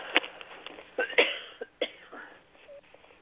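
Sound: coughing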